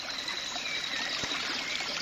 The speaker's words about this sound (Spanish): ¿Escuchan? Ese es el río Yasuní, enorme y muy caudaloso. Estoy cerca de Garzacocha, una comunidad guaraní que es ahora un territorio protegido por el INEFAN.